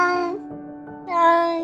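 A domestic cat meows twice, wanting to be let out, clear, with a drawn-out, harmonically rich cry; the first call fades before a louder, rising second meow follows.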